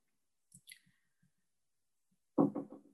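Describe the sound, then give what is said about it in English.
A few soft, dull knocks on a door by a plumber wanting to come into the room, irregularly spaced, with a brief high clicking scrape near the start, then a sudden louder, rough burst of sound at the end. “Can you hear the knocking?”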